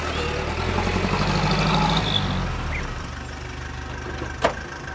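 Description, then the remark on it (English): A taxi's engine idles with a steady low rumble, swelling slightly before settling, and a brief sharp click cuts through near the end. “Hallo? Hallo? Taxi!”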